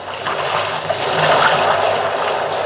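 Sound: propeller plane engine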